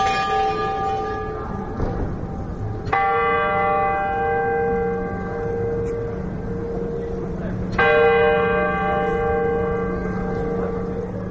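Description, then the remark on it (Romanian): Bells of the astronomical clock in the town hall tower on Rynek square in Wrocław strike the hour on a cold, damp day: three loud, resonant tolls several seconds apart, each ringing out with a long, shimmering decay over a steady murmur of background noise. “Aici auzim acele ceasului astronomic din turnul primăriei, care indică ora fixă.”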